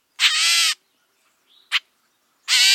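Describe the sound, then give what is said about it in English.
A catbird gives harsh, cat-like mewing calls: a long nasal mew, a soft brief note and a quick sharp one, then another mew cut off at the end. Loud, no talking. “Once I heard a cat mewing at me from a place way up high in a tree. When I climbed up, I found there was no cat around. 'Twas a catbird I'd climbed there to see.”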